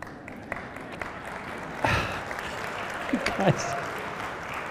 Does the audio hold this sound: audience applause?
yes